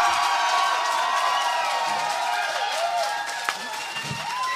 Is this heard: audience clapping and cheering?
yes